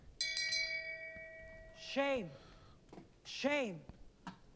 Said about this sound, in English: But until then, let's just ring the bell of shame and see what we come up with.